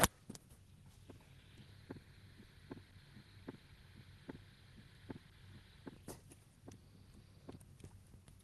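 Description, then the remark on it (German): A normal human heartbeat thumps at a calm, even pace, roughly ten beats, each with its two heart sounds and nothing in between, with quiet gaps between beats, set against a faint low hum and no voices. “Man hört wirklich die beiden Herztöne und dazwischen eigentlich nichts.”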